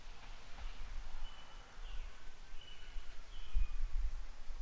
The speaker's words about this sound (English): We got the crickets in the background this time and everything, even though that was the birds.